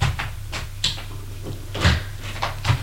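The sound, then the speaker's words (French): The door of a studio control room being opened, with a series of sharp clicks and knocks from the handle and latch, then a heavier thud near the end, over a steady low hum. “Puis il va ouvrir la porte de la régie.”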